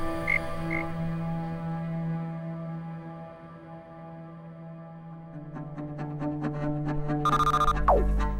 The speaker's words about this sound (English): Right, Froggy? She thought I named you Bruce. Bruce the frog. I like that.